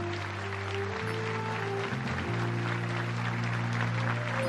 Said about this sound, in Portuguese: Você pode aplaudir o Senhor pela decisão desses irmãos?